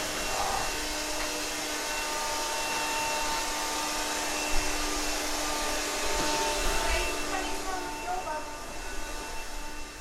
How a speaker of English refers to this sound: That's Jake with the Hoover.